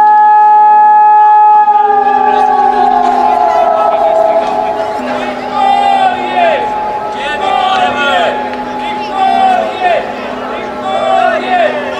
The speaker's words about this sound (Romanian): La 34 de ani de la acel moment, sirenele au răsunat, ca în fiecare an, la ora 12.